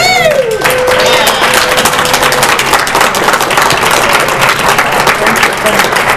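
A crowd applauds steadily, dense overlapping claps filling the whole stretch at a loud, even level, with a brief whistle-like tone near the start.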